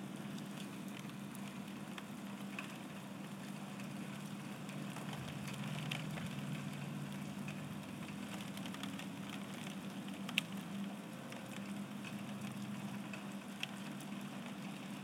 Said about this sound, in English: Now, it's 0 degrees, and guess what, folks? We have freezing rain. Where on earth did spring go? It's almost April, for Pete's sake.